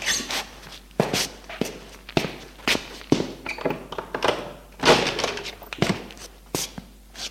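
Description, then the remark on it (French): Footsteps of a man walking steadily across a floor at home in the evening to answer the doorbell and open the door, a series of distinct thuds with light shuffling between them, and no voices. “On sonne à la porte. Il va ouvrir.”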